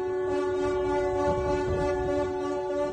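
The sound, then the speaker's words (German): Tugboat horns blare in a steady, sustained celebratory chorus, loud and continuous for the whole stretch, with overlapping deep tones over low rumbling background noise, as the tugs around the stranded ship Ever Given in the Suez Canal honk after it finally moves. “Ein Erfolg, den die Schlepper um den Tanker im Suezkanal mit einem freudigen Hubkonzert begleitet haben.”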